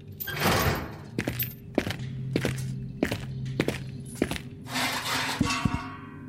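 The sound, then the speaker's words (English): A door creaks and swings open with a rushing sweep, then several heavy, evenly spaced footsteps thud across a hard floor, with another soft whoosh near the end. “Oh, wait, someone's opening the door.”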